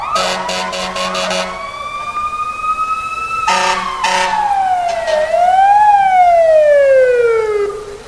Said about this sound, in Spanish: Queda claro, la sirena nos anuncia que ya se ha acabado ese minuto